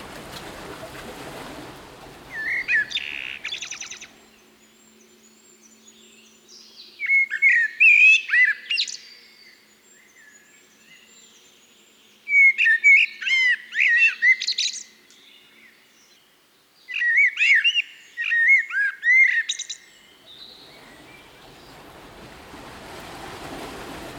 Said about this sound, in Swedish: Koltrasten har vi ju här hos oss i Sverige året runt, men när kan man få höra sången? Alltså sjunger den hela året, eller är det bara på vårkanten? Eller? Nej, den kan man höra året runt. Det får väl gärna vara lite mildare morgnar eller kvällar.